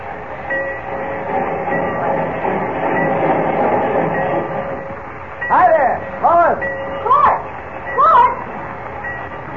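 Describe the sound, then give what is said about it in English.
The busy Central Railroad Station in Metropolis: a steady rumble of trains and crowd hubbub fills the first half, then four short rising-and-falling tonal calls ring out over the background, one after another. “White told me to meet you down here at the Central Railroad Station.”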